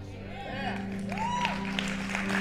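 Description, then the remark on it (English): An overflow audience claps steadily in a dense, continuous patter, with voices and a sustained low tone underneath, the applause holding at an even, moderate loudness throughout. “Are you guys clapping over an overflow?”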